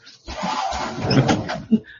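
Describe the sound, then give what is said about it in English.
A door is pushed closed to stop a cat fight after a second or so of scraping, rustling movement, ending in one sharp thud, then quiet. “You might want to shut the door down.”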